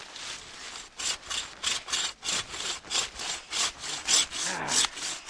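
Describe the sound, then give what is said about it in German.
A hand saw cuts through the trunk of a tall, slim tree in steady back-and-forth strokes, about ten rasping pulls, fairly loud, with no voices, before the tree falls. “Hammer, Baum fällt.”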